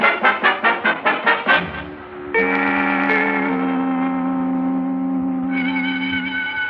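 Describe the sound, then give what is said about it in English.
A bell rings in a rapid run of about eight bright, evenly spaced strikes, then gives way to a loud, steady, sustained ringing tone that holds to the end, with no voices. “There's the bell.”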